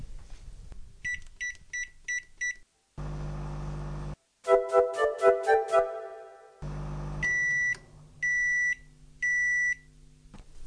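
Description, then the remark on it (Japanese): A run of five quick electronic beeps, then a low appliance hum and a brief melodic chime, ending with three longer, evenly spaced beeps from a microwave oven signalling it has finished heating a pack of cooked rice at 500 watts for 1 minute 30 seconds, with no talking. “できましたので、電子レンジからパックご飯を出します。”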